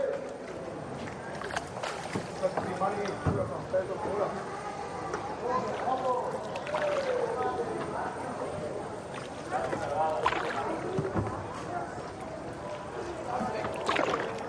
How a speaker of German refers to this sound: Wenn ihr mich fragt, das ist ein Kanal. Also sowas wie ein Graben mit Wasser drin. Und diese Gräben, die gibt es vor allem in einer italienischen Stadt. Ganz genau, in Venedig.